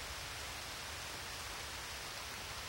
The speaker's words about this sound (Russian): Первый миг не слышно ничего, кроме дождя.